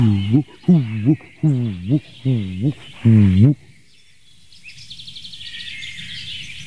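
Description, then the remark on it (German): A dove coos five times in a steady, rhythmic series of low, throaty notes, loud, at a site just outside an orchard meadow, before fading into a faint, high insect-like trill in the background. “Eine weitere Taubenart hier auf dem Platz.”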